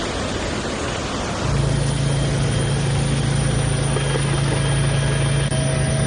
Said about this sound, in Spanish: ¡Madre mía! ¡Madre mía! Y sigue lloviendo.